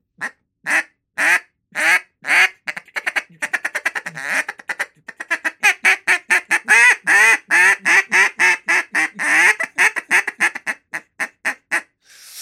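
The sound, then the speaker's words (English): A double reed drake duck call blown in a long series of raspy quacks, starting in spaced bursts and then running into a fast, steady cadence, loud with no talking. “So that's a double reed Drake break.”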